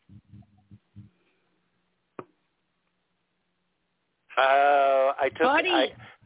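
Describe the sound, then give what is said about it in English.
A cat named Buddy, sitting on a table, lets out two loud, drawn-out meows near the end after a phone is taken away from his mouth, the pitch wavering and sliding. Before them come a few faint low murmurs and a single sharp click. “And when I took it away, he meowed.”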